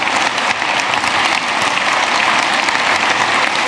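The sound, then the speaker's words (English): A crowd applauds steadily for a couple celebrating 50 years of marriage, dense clapping filling the whole stretch at a loud, even level with no voices on top. “And we wanted to applaud you and salute you.”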